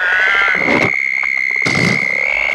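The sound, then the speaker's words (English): A voice imitates a toad with a continuous high, thin squeak, broken by two short, breathy hisses. It is loud and alone, with no talking. “I think it's more of a hissing and squeaking toad.”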